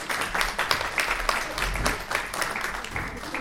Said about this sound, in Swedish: Jag vill tacka panelisterna och jag vill tacka alla i publiken för ett bra samtal. Men först en stor applåd till panelisterna.